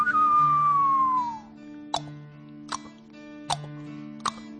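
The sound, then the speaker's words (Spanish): A Spanish singer and composer whistles a long, clear note that slides downward, like the start of a Western-style tune, followed by four evenly spaced sharp clicks that sound like clip-clopping hooves. “silba como si fuera el mundo del oeste.”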